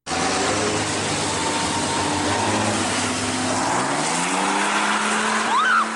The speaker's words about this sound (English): Fraternity Brothers from a nearby college drove by, hanging out of the back of their truck, shouting hate speech, doing burnouts, and spraying the women with gravel and black smoke.